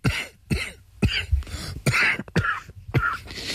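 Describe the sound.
A voice imitates a string of about six short, muffled coughs of an audience member at a performance, fairly loud, coming in quick uneven bursts as the cougher tries to stifle them so as not to disturb the other spectators and the actor speaking.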